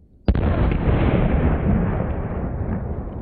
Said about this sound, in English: This watermelon was completely destroyed by a firework the size of a stick of gum.